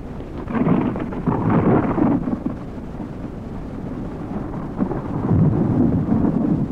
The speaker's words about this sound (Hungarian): A vihar okozza. Ingatag itt az elektromosság.